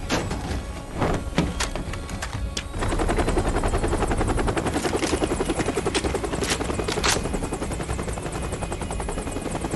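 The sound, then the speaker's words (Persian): A helicopter roars, its rotor chopping in a rapid steady pulse that swells louder after a few seconds and holds strong, with sharp clanks early on. “هلیکوپتر.”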